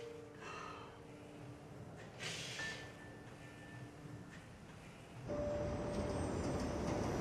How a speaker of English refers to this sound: A subway car moves along a track above ground.